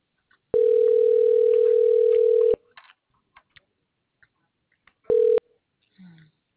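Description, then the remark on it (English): A telephone ringback tone plays while a call connects after an automated message: a loud, steady mid-pitched buzz lasting about two seconds, a silent pause, then the start of the next ring cut short. “You will hear ringing while your call connects.”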